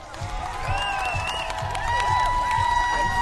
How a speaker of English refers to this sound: Well, it's just after 3 o'clock, and even though the race has long been won, there are still some runners out on the Boston Marathon course, plus the people who've come from all around the world to cheer them on.